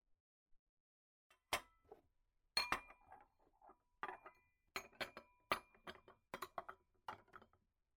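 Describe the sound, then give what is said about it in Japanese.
Dishes clink and clatter as they are put away in the wrong place, a run of sharp, irregular knocks and chimes, bunching together with short pauses in between and no voices. “お兄さん、食器入れるところ、間違ってますよ。”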